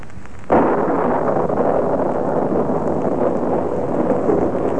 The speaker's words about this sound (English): Raining again. Ah, what a climate.